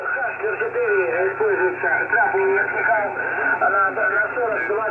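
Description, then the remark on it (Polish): A muffled, band-limited shortwave radio voice warbles through a steady wash of hiss and static, the speech garbled and unintelligible, with a faint low hum underneath throughout. “Tylko generalnie nie da się tego przez te szumy kompletnie zrozumieć.”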